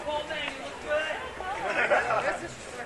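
crowd chatter

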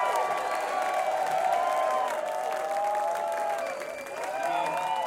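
audience applause and cheering

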